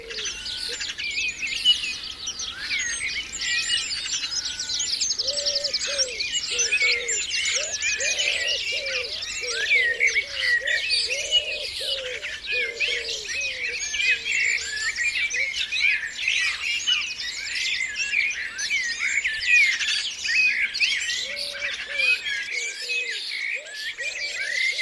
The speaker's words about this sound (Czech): Takhle nějak možná zpívali v roce 1998 ptáci na jedné lokalitě ve Velké Británii. Podle druhů, které jste mohli zaslechnout, to bylo kdesi v blízkosti lidských obydlí.